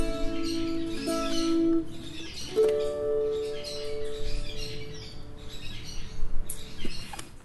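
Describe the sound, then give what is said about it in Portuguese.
Birds chirp and twitter steadily at moderate volume, with a few sustained tonal notes humming beneath them. No one speaks. “Tem fruta, flor, tem passarinho.”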